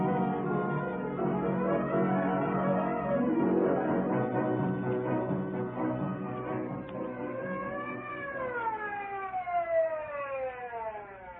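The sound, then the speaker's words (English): A wailing ambulance siren rises and falls in long sweeping tones as the ambulance arrives, loud and steady throughout, its pitch gliding up and down over a busy background. “Twenty minutes later, the ambulance arrived.”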